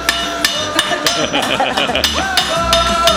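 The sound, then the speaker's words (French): Sharp metallic hammer blows from a smith's 1 to 1.5 kg hammer ring out at a steady rhythm, roughly one every third of a second, each blow bright with a ringing tone between hits, over a low background hum. “Donc c'est des dizaines de milliers de coups de marteau.”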